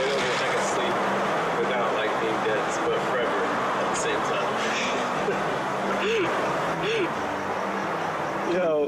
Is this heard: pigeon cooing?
no